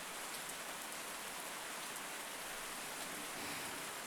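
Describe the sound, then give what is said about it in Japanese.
Steady rain falls throughout, a dense, even hiss of drops pattering on a surface, unbroken, with no voices or other sounds. “雨ですね。”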